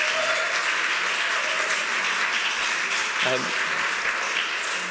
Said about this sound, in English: And I think just to say, again, a huge thank you to the both of you. I think a round of applause is not inappropriate.